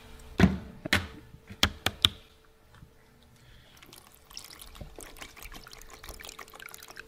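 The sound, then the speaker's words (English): A handful of sharp clacks and knocks, then a steady, gurgling stream of bubble tea being poured into a cup for several seconds, with no talking. “And now for my bubble tea.”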